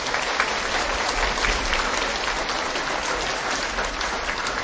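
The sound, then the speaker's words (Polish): Steady, sustained applause from a large crowd, a dense wash of many hands clapping at an even loudness for several seconds with no one speaking over it. The applause welcomes an organized group of visitors from Czerna, in the Ołpiny deanery, at a gathering in Tuchów. “Brawa gorące dla nich.”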